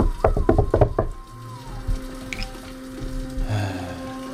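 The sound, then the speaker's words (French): A quick burst of about five sharp knocks on a wooden apartment door, followed by a low steady hum with faint scattered rustling and no voices. “Tu toques à la porte.”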